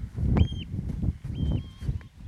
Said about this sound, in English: Well, I haven't heard a lapwing properly yet.